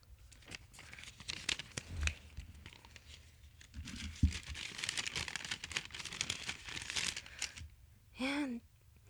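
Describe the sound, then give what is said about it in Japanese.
Busy crinkling and ripping of cute gift wrapping paper for several seconds as a present containing lotion is opened, with sharp tearing bursts and rustling, ending with a brief voiced sound. “あ、なんか可愛い包装紙に入ってるね。開けていい？”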